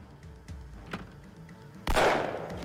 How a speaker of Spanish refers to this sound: Se oyó un disparo.